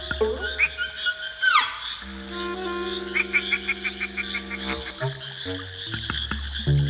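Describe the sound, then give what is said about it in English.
A chorus of frogs croaking, with several overlapping calls, some pulsing in quick rhythmic bursts and others drawn out, continuous for the whole stretch, with no voices. “We're now going to hear from Tom Wilson talking with Helen Robertson from the Perth Zoo about threatened frog species in WA.”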